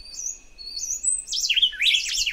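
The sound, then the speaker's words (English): Bright, whistled birdsong from a juvenile canebrake wren dueting with its parent at the nest in a Costa Rican forest, with clear rising phrases that turn into dense, overlapping warbling in the second half as the young bird sings over its parent's lines. “Here's the same baby bird singing just 2 weeks earlier. Listen for it trampling on the lines of its parent in the second half of this duet.”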